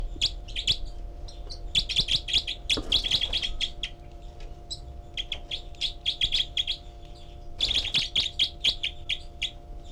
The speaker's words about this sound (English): And this is the group of four birds. And 306 is the loud one. 318 giving begging calls. 306 is the secondary caller.